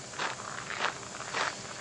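Three soft, crunchy footsteps on dry ground or grass as a person walks across a yard at an unhurried pace, carrying a scoop of feed to chickens, with no talking.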